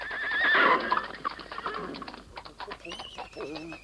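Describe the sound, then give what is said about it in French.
A horse lets out a loud, shrill whinny, followed by a steady clip-clop of hooves trotting along, with faint chirps in the background. It is D'Artagnan's old yellow horse, carrying him across France. “Sur son vieux cheval jaune, D'Artagnan traverse la France.”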